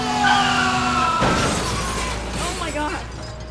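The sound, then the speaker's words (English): A big green bus's tires screech in a high, sustained squeal for about a second as it hits a man crossing the street, then a loud crunching crash hits, followed by rattling debris and a lingering noisy rumble. “There once was a man who had to cross the street, but he didn't look both ways before crossing, and he was unfortunately hit by a big green bus.”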